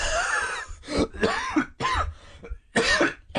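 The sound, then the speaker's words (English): A person coughs several times, a series of harsh, raspy bursts spaced unevenly over a few seconds, with brief pauses between them and no talking. “Not the coughing.”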